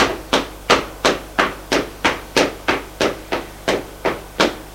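footsteps on stairs

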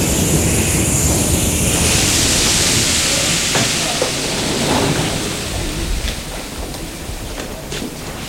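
metro train running

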